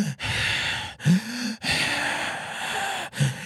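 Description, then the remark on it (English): A voice imitates the heavy, labored breathing of a dying man on his deathbed: long raspy inhales and exhales, three or four slow breaths, each broad and noisy with a short voiced catch between them. “His breathing's getting a little heavy, getting a little slow.”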